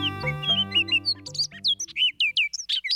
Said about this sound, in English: This bird song sounds like a nasally imitation of a robin, and the bird singing it is a rusty brown riff on a Baltimore Oriole.